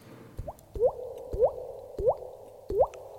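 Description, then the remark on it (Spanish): Water drips in a steady rhythm, about five drops in three seconds, each a short hollow plop with a quick upward-bending pitch. No one speaks. “¿y el agua esa de dónde te la sacas?”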